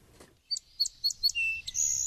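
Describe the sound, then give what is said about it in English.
A songbird sings four clear, sweet repeated notes in quick succession, then slides into a brighter trilled phrase, distinct over faint low background rumble. “The four repetitious notes, clear as a bell, are followed in rapid succession by a series of more varied ones, some musical, some buzz-like.”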